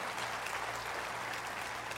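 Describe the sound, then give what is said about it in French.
An audience applauds to show its support and love for a family, in a dense, steady wash of clapping that holds at an even level for about two seconds, with no individual claps standing out and no voices. “Alors ce matin, j'aimerais qu'on s'arrête un instant et qu'on puisse applaudir et dire à cette famille que non seulement nous sommes avec eux, mais comme nous sommes inspirés, ils vont applaudir fort et lui communiquer votre amour.”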